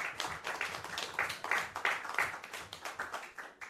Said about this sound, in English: So actually, I'd like you all to give Cliff a massive round of applause for sorting that out.